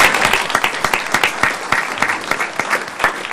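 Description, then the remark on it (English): Steady audience applause for someone who has just finished testifying, a dense patter of many hands clapping with sharp individual claps poking through, sustained and fairly loud throughout with no voices. “You deserve a round of applause just for doing a great job.”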